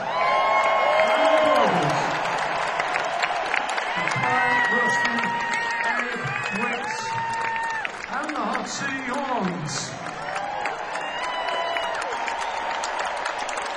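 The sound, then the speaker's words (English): A concert crowd claps steadily for itself at the end of a band's show, a dense, continuous wash of applause, with high whoops and shouted cheers rising over it, for about fourteen seconds. “We thank you, so give yourselves a big round of applause.”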